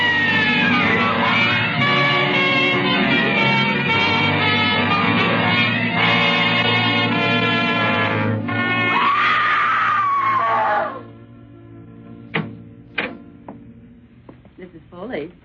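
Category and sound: human body sound, woman screaming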